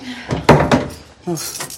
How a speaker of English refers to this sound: unlocks the door and goes in.